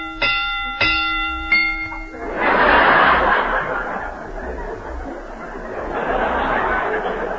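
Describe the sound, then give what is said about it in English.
Three clear bell chimes ring out in quick succession, each note hanging briefly, rung as a rating for a mystery film, before a burst of laughter and chuckling from a group takes over and carries on to the end. “This mystery gets 3.5 bells.”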